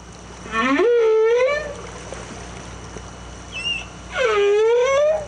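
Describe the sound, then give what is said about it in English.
Two loud, rising-then-falling tonal whistles with rich harmonics, separated by a brief higher chirp, like orcas calling underwater over a steady watery hiss. No one speaks. “Orca are very communicative, their group dynamics are very, very strong, and that's what we can hear when they are talking to each other and communicating with each other, these whistling sounds.”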